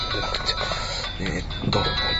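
A phone ringtone plays a steady electronic melody with bright repeating tones, fairly loud, over a constant low rumble in the background, an incoming call received while driving a car.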